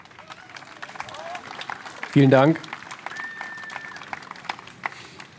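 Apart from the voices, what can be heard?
audience applause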